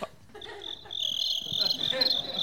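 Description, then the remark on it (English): A cricket chirps in a steady, high-pitched trill that runs almost continuously, growing a little louder partway through, with faint background murmur underneath. “No, I think it shuts them down, because they're like, who's this hot-sounding cricket that's not real?”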